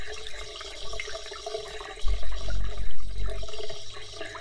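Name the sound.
shower water running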